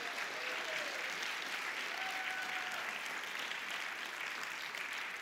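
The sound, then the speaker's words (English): Sustained applause from an audience honouring a woman from the Red Cross, a dense, steady wash of clapping that holds at an even level for several seconds, with a couple of faint whistles rising above it. “Go ahead and make some noise for that.”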